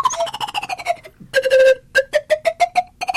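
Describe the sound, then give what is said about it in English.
A slide whistle plays a run of short, tongued notes, each a bright pure tone, in a quick stuttering rhythm. The pitch dips after a brief pause and then edges slightly upward. “I've never played a slide whistle before.”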